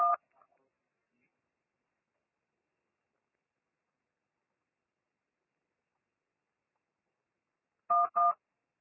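Short electronic keypad tones sound as a number is dialed during a phone call to the Halifax bank anti-fraud department: one beep at the start, then a long silence, then two quick beeps in close succession near the end. No one speaks.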